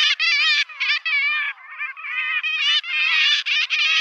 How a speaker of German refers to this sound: Ich glaube, dieser, wo sich die Stimme überschlägt am Ende, kann man schon erkennen, zu welcher Vogelgruppe es gehört. Es passt natürlich zur heutigen Episode. Na klar. Es ist natürlich eine Möwe, so viel sei schon mal verraten.